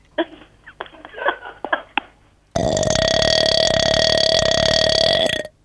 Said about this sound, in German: Eine Apfelschorle irgendwas. Oder eine Fanta. Das kenne ich. Das ist aber eine Limo. Na, mach doch nicht. Kann man auch rülpsen. Und wie viel muss man da trinken? Na, richtig einen ordentlichen Schluck.